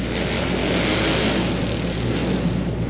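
Loud, steady roar of four motorcycle engines running together at heat race number 2 of an open amateur motorcycle competition, a continuous droning rumble with no clear revving peaks, filling the whole stretch without any voices.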